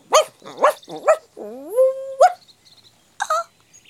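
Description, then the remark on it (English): A dog named Hurricane, outside, barks in a quick burst of three sharp yaps, lets out a drawn-out rising whine, then gives two more separate barks, with no one talking. “Stupid dog.”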